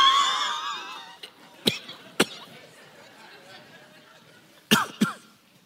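A person imitates a sudden hacking cough: a strained, raspy vocal sound gives way to sharp, harsh cough bursts, two, a pause, then two more, fairly loud.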